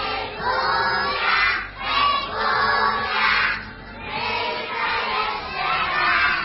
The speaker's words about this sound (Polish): Nie obyło się też bez choralnego odśpiewania pieśni zagrzewającej byki do boju Hej Unia, której refren dzieci doskonale znają na pamięć.